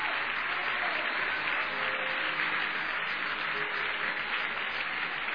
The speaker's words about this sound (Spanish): A ver si le aplaudimos arriba de nuestra cabeza fuerte.